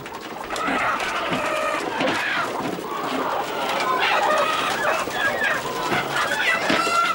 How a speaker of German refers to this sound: Manche sehen am Tag der Schlachtung zum ersten und letzten Mal die Sonne. So wie diese Hühner aus einer Käfighaltung.